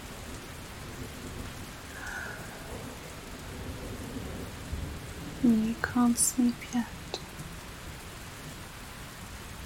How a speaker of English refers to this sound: We can wait for the storm to pass a little bit further from here. So the thunder quietens down here.